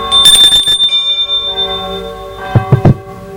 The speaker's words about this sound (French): Sonne à la porte.